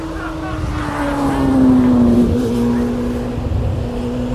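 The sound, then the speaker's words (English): A V8 race car engine roars at full throttle, a loud, steady, buzzing drone with a low pitch that dips slightly and swells in the middle before easing off, with no voices. “Nice V8. On full chat.”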